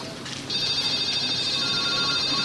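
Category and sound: signal or alarm, mobile phone ringtone ringing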